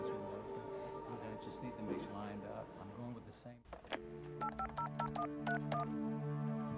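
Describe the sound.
A voice talks briefly, then a telephone number is dialed: a quick series of distinct touch-tone beeps, about eight presses in an uneven rhythm, clear over a steady hum.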